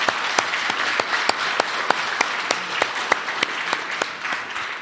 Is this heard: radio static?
no